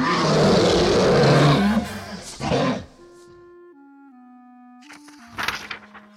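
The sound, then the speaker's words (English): A huge dragon lets out a loud, rasping roar for several seconds, followed by quiet sustained tones and then a second, shorter growling burst at the end. “Behind them, a huge dragon roared and raged.”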